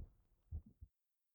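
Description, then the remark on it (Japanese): A nervous woman's quick heartbeat, heard through her chest, thumps in muffled low-pitched pulses, a few beats in rapid succession before falling silent, quiet and with no voices present. “すごく速くなってるでしょ。”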